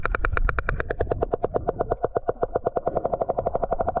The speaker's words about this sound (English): But this is the reason why sperm whales have such massive heads, is to make this sound. Now, again, this is the loudest sound you can possibly hear, created by a living thing, and this is what it sounds like.